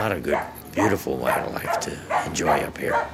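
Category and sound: animal, dog barking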